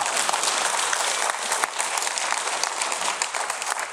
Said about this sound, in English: You can clap. You should clap.